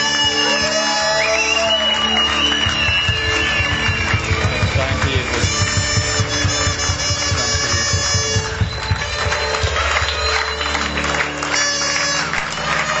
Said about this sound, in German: echt fetten Applaus geben.